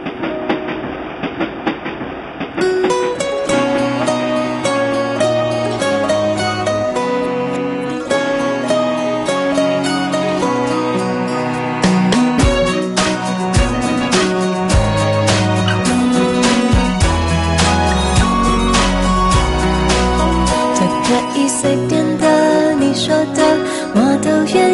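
A Mandarin-language pop song's instrumental intro plays loudly and continuously on the Taipei radio station FM104.1, with a steady chugging, train-like rhythm under bright keys and bass; no singing comes in during these seconds.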